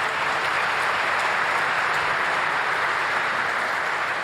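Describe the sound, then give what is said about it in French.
An audience applauds steadily, a dense, even wash of clapping that holds at a constant loud level throughout, with no voices breaking through. “Vous pouvez applaudir, si vous...”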